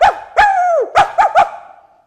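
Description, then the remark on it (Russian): A dog named Kuzya barks five times, loud and sharp, getting underfoot as boys chase a parrot around a room: a quick yap, a longer drawn-out bark with a slight whine, then three rapid barks in a row. “А Кузя лаял и путался под ногами.”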